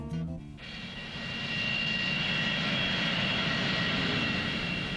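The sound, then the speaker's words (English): A loud, steady airplane engine roar in flight drones on without a break, with a thin high whine riding on top, after a brief tonal sound in the first half-second. “Do you like to fly? Aimez-vous prendre l'avion? Do you like airplanes?”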